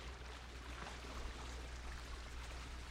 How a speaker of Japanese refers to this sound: コンクリートの壁に波が打ちつけられるから、なんていうか水をかき混ぜるような感じに聞こえるよね。